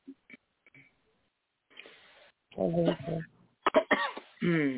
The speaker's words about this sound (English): I hear you coughing. God bless you. Or was that a sneeze?